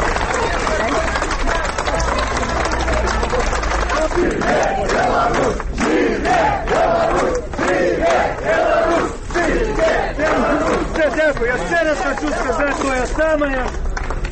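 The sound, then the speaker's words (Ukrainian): Outside a court building in Belarus, a loud crowd of relatives, supporters and journalists greets freed prisoners with flowers, applause and cries of "Zhyve Belarus!" (Long live Belarus). Many voices overlap in excited calls and chants, with bursts of rising yells throughout. “ля будынку суду сустракалі дзясяткі родных, паплечнікаў, журналістаў, кветкамі, аплодысментамі, воклічамі «Жыве Беларусь!».”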